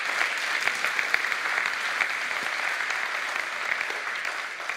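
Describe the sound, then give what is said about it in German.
Sustained applause from a community audience thanking the staff team, a dense, steady patter of many hands clapping at once, fairly loud and continuous throughout with no speech over it. “Können wir einen Applaus geben?”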